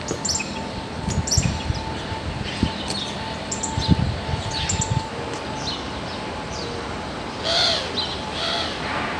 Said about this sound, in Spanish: Todo rodeado del olor a eucalipto o a pino y con el sonido de varias especies de pájaros.